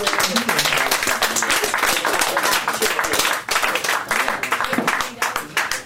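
An audience at a poetry reading applauds steadily for about six seconds, a dense, loud wash of many hands clapping at once with no clear individual rhythm, sustained without a break until the end.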